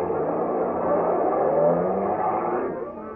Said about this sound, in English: They jumped into a truck that was standing outside. A few other men boarded the back of the truck. They sped off down the street.